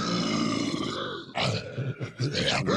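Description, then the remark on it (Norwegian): A voice imitates the deep, dark snarling heard from underground: a sustained guttural growl rolling for over a second, then several rough, throaty bursts, loud and without words. “En slags snerring. Yes. Mørk og dyp. Litt sånn her.”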